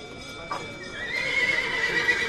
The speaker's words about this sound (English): The start of sales at Argentina's biggest cattle auction, the Mercado de Liniers. A scrum of buyers bids on some of the 10,000 animals in the stalls and stalks the yammering auctioneer.